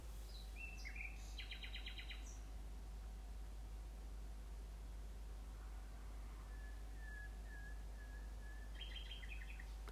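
A nightingale sings in separate phrases: a rapid trill, then a run of sustained whistled notes, then another burst of trills, against a steady low hum and faint hiss.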